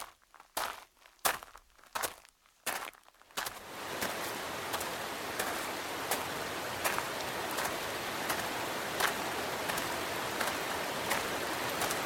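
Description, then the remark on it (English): A few crunching footsteps give way to a steady rush of water spilling and splashing over an overflowing water feature, continuing evenly with faint intermittent ticks and no voices. “My God, they've completely overflowed the water feature with their essences.”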